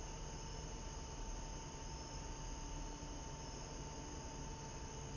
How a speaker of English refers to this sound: The absolute truth is that I can't tell where the sound of the crickets is. Is it in my mind? Is the sound in the air? Is it out in the yard? It's everywhere.